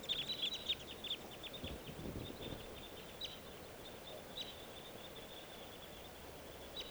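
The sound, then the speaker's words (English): Short, sharp chip calls from two crossbills taking off and joining a flock of three others repeat in quick bursts, busiest in the first second and then thinning out and fading as the birds fly off up the creek, over a steady outdoor hiss. “The two crossbills just took off, joining a flock of three others.”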